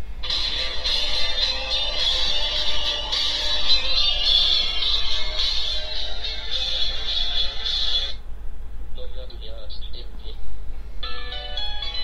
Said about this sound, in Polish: Przeglądam sobie dzwonki, nie wyciszając syntezy.